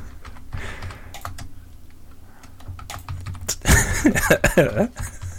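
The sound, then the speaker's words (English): Rapid, irregular clacking of keys on a computer keyboard as someone types a quick byline, with a brief burst of voice or throat noise toward the end over a low background hum. “Are you typing up a response to him?”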